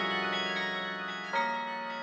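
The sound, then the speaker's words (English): Massive carillon bells played by a carillonneur ring with layered, sustained tones, their overlapping partials hanging in the air, and a fresh bell strike enters partway through. Moderately loud and resonant, with no voices. “close to the heavens, making what is perhaps the ultimate musical public art, connecting with tradition, with these massive bells, and with the world on the ground.”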